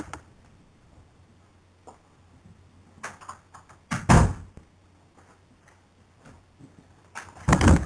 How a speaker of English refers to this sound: I need to shut a door. I'm sorry.